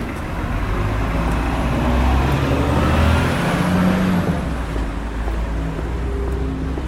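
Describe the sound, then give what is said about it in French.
Steady low engine rumble and road noise from inside a moving city bus in Dunkirk, France, with a faint rising whine and rattles; continuous and fairly loud, no one speaking. “Vous savez ce que ça me fait depuis 48 heures qu'on prend le bus à Dunkerque, moi qui viens d'une ville où les transports sont payants.”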